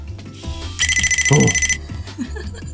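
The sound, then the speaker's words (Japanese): A RoBoHoN robot phone's incoming-call ringtone plays as it is called from outside, a bright, rapidly warbling electronic ring lasting about a second, loud, with some low background noise and faint sounds around it. “引き続きこれあの電話ですので、電話を、はいまずはい、かけてみたいと思います。”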